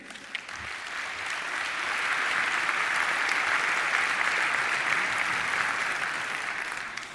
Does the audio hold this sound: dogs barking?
no